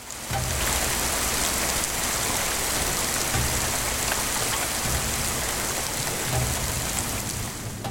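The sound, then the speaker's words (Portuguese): Heavy, wind-driven rain pours down steadily during the rainy season at an outdoor festival in Brazil, a dense, constant hiss with a few low rumbling swells underneath and no voices. “Choveu com força.”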